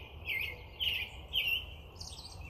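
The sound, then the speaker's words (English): Birds sing outdoors, chirping in short bright bursts roughly every half second, fairly faint, over a low steady background rumble with no one talking. “Oh, listen to those birds.”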